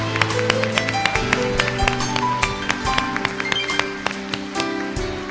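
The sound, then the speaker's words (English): An audience at a Christian church service claps their hands in a steady, overlapping patter of sharp claps, loud and continuous, over sustained low musical tones. “Come on, give his hand clap.”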